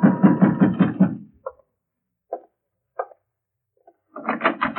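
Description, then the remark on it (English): Someone pounds on the door of a room in a house: four heavy, separate thumps at uneven intervals, each short and solid with silence between, framed by louder tonal passages before and after. “I was about to call Preen and ask him why when somebody began pounding on my door”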